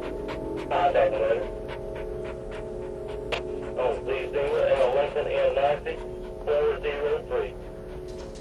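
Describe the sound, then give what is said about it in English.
A large Alsatian dog pants in short, breathy bursts at the end of a corridor, mixed with a few high whining tones, over a steady low background hum. “An Alsatian dog appears at the end of the corridor. It turns and looks at Jim,”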